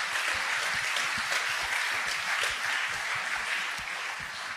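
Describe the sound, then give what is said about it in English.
A conference crowd applauds steadily, a dense wash of many hands clapping at an even, sustained level for several seconds before easing off slightly at the end. “Special round of applause to you.”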